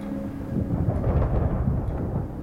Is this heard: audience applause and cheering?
no